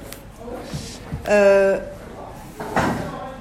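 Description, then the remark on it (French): A door is pulled shut, with a short tonal creak lasting about half a second, then a soft knock as it settles, against a quiet background. “Par exemple, fallant la porte. Demande-leur s'ils peuvent faire un tout petit peu moins de bruit.”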